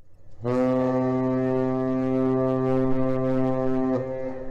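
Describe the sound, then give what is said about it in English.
A deep, sustained blast from the horn of the Barbro G, an ocean-going cargo ship about the length of two football fields, gliding under Duluth's Aerial Lift Bridge at the start of the Great Lakes shipping season; a steady low tone rich in stacked harmonics, beginning abruptly and holding loud and level for about four seconds before cutting off. “The Great Lakes maritime shipping season is underway with the docking of the Barbro G, the ocean-going vessels about the length of two football fields, here gliding under Duluth's aerial lift bridge on Monday.”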